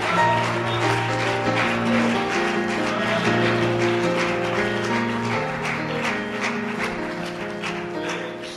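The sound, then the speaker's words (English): An audience at a Christian worship service claps steadily in rhythm, the handclaps sharp and continuous over loud sustained music with organ-like chords, filling the whole stretch without pause. “Let's clap our hands.”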